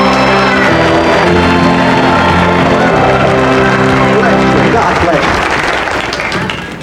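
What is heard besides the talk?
audience applause and cheering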